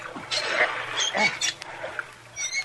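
A stuck car door, rusted after two or three days in a river, its lock rusted by river water, being wrenched at, with several harsh scraping creaks and metallic grinding in uneven bursts, alongside faint straining grunts.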